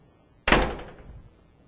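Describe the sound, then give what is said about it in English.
A door is pushed open with one sudden, fairly loud knock of wood and a short, fading rumble afterward. Nobody speaks, and the sound stands alone against a quiet background. “I said, I believe if I push the door, it'll open.”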